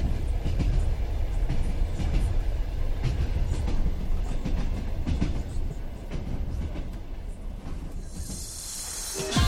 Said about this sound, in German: Die Strecke ist von Moskau bis Wladiwostok zweigleisig ausgebaut und elektrisch. Bevor wir abreisen, träume ich mich noch einmal zurück an Bord dieses Zuges, dessen regelmäßiges Rattern so beruhigend ist und in dem man alle Zeit der Welt hat.